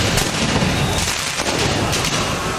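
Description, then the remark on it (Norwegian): Dense, continuous outdoor din of firework bangs and crackling pops over a loud crowd roar in the streets of Paris, as football fans celebrate Paris Saint-Germain's first men's Champions League win with fireworks, smoke bombs and flares; sharp bursts scattered throughout, no clear pauses. “Med røykbomber, fyrverkeri og nødbluss, som startet branner der både biler og sykler ble totalskadet.”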